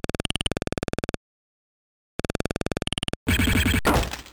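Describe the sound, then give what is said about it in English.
In a shooting game, two runs of rapid, evenly spaced electronic beeps separated by a pause, then a shot hits the target, a car windshield: a sudden loud burst of shattering glass that crackles and fades over about a second. “The target is a car windshield.”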